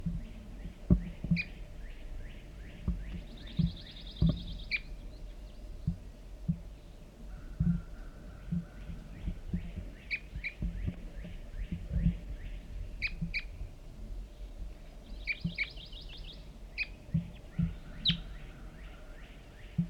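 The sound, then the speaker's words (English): Repeated short, sharp calls of one lone male red crossbill (large race), perched in a large white pine across a creek, sound in scattered pairs and bursts, with a rapid chattering series over steady low background rumble; no one speaks. “It was one lone male red crossbill, large race, and I see him sitting in the large white pine across the hollow, across the creek.”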